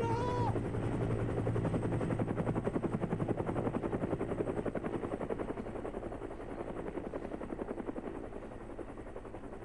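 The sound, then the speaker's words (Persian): A helicopter thunders, its rotor blades chopping in a fast, steady rhythm with a low engine drone underneath, loud throughout and easing off slightly toward the end. “بهترین بود که دنبال هلیکوپتر بدوم تا توی موقعیت مناسبتر اونا رو متوجه خودم کنم”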